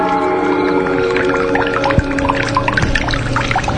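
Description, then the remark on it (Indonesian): A bathroom water tap that has come on runs steadily, water pouring with a constant splashing hiss and faint gurgling tones, not strong but fairly loud, with no voices over it. “Sampai tiba-tiba aku mendengar suara keran. Keran air di kamar mandiku itu menyala.”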